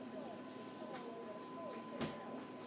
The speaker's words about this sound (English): I'm trying to start my dishwasher up, but I can't get the door to close, and I don't know why. I just can't seem to fathom out why it's not shutting.